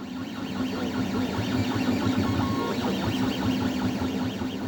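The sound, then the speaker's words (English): A 3D printer named Gutenberg, nicknamed Goot, runs steadily, its stepper motors whirring and whining in rising and falling sweeps over a constant mechanical hum, with no voices present. “We sent producer Megan Tan over to see the 3D printer in action.”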